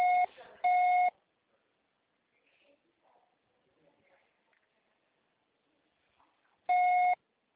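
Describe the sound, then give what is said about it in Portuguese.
Three loud, steady electronic beeps: two short tones in quick succession at the start, a long quiet gap with faint murmuring, then a third beep at the end, like a voicemail recording tone. “Grave seu recado agora.”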